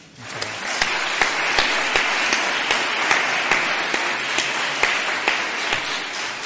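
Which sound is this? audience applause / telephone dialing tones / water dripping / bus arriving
audience applause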